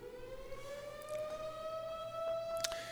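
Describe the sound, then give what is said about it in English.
A steady emergency siren wails alone, its sustained tone slowly rising in pitch with rich overtones, holding loud and continuous throughout with a few faint clicks in the background. “Lord, as the whistle goes off, I pray for the situation.”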